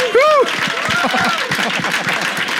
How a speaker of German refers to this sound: Amen. Amen. Geben wir Jesus einen riesen Applaus. Halleluja.